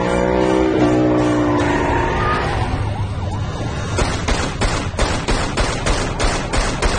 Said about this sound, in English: The bullets shatter the windshield. The car spins and slams into a barricade.